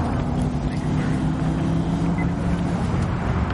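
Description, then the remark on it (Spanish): A patrol car's engine drones steadily with a low, humming rumble as the car drives away, continuous and holding an even level without fading for the whole stretch. “Dina y Víctor corren hacia el coche patrulla. El vehículo se aleja.”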